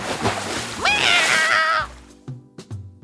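A cat is pushed off an ox's back into a river: a rough, noisy splash of water bursts out, overlapped by a high, wavering cry that rises and holds for about a second, then a few small splashy knocks trail off.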